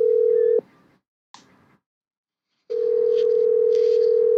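Ringback tone of an outgoing phone call placed by a reporter to a former neighbor to ask for an interview: a steady, mid-pitched electronic purr, cut off by a pause with a faint click, then starting again and holding. No one speaks.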